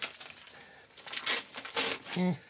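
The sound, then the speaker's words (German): Quiet rustling and a couple of short crisp bursts of a tiny scrap of used wrapping paper, taken from a wastepaper basket, being torn, followed by a brief murmured voice at the end. “Ah, so ein klitzekleines Fitzelchen.”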